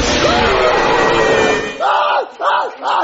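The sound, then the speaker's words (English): A crowd of people screams and yells together in a loud, dense roar, which breaks into three sharp, rising-and-falling shouts at a steady rhythm. “Hey there, I heard a bunch of screaming and thought I'd check it out.”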